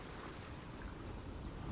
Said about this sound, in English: Feel the cool waves lapping over your feet.